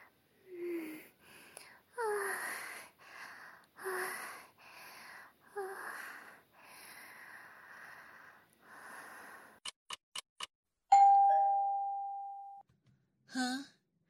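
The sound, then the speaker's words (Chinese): A single electronic doorbell chime rings out clearly and fades over about a second and a half, following a stretch of heavy breathy vocal sounds and a few quick clicks. “谁按的门铃啊，宝贝？”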